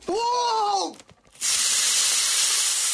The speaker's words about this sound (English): trying to toss Mentos into a bottle of soda.